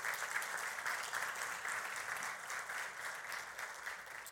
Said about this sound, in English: Come on, can we give God a hand clap of praise for that, right?